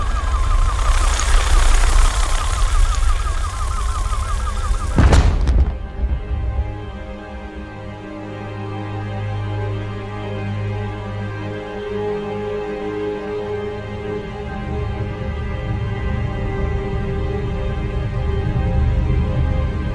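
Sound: explosions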